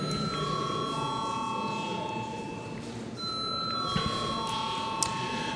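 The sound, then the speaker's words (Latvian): A steady electronic bell rings continuously in the chamber of the Saeima, Latvia's parliament, before a secret vote on a judge's appointment. Its bright sustained tones shift pitch a couple of times over a low murmur of voices and shuffling. “Lūdzu arī Saeimu balsot par šādu lēmumu projektu. Paldies, lūdzu zvanu.”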